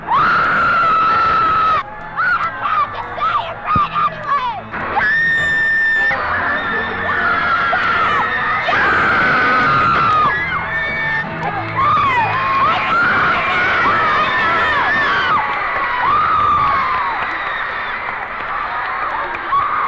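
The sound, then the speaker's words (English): A large crowd of fans screams and cheers continuously, a dense, loud wall of high-pitched shrieks and yelling that sustains throughout with shifting peaks of excitement. “Would you say they're screaming more or less this time than last time?”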